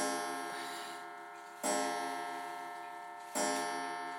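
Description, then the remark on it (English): A clock chimes three times at a slow, steady pace, each resonant bell-like strike ringing out and gradually fading before the next. It is clear, with no voices. “And clock, that really doesn't help. That sort of spoiled the moment, didn't it?”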